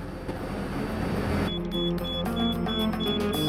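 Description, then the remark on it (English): A bomb timer in a gas can, a mile away, starts beeping midway through as it ticks past the hour and a red light flashes: a steady run of short, high electronic beeps at a quick even pace over a constant low rumble of background noise. “Meanwhile, a mile away, the timer in the gas can ticks past the hour, making a red light flash.”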